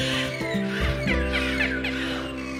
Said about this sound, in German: Sie kommunizieren in ihren riesigen Gruppen mit Quietsch, Pfiff und Gackerlauten. Belugas sind die Kanarienvögel der Meere.